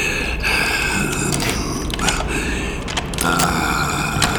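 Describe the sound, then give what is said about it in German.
A door is unlocked with a key picked from a large bunch and opened: several sharp metallic clicks and ratcheting mechanism sounds over a steady hum, with creaking between them, and no voices. “Als er die Türe geöffnet hatte, trat er zuerst hinein”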